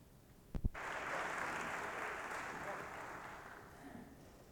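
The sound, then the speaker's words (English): An audience breaks into steady applause before the preacher starts his sermon, holding for several seconds at an even level, a dense patter of many hands clapping, then slowly thinning toward the end. “Sometimes when I preach, the folks applaud, but hardly they ever applaud before I start, and I appreciate that.”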